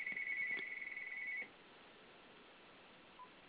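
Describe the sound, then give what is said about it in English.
A telephone rings with one steady, high electronic tone that holds for about a second and a half, then cuts off, leaving quiet hiss and a faint short blip. “Okay, I'm going to give you a tune, and I'm going to take that phone call.”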